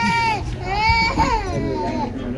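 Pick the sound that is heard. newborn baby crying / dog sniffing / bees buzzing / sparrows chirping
newborn baby crying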